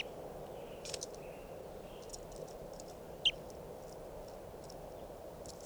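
A few faint, brief high-pitched bird chirps outdoors at bird recording point 551, scattered and irregular, over a steady low hiss, with one sharper single chirp standing out midway; no one speaks.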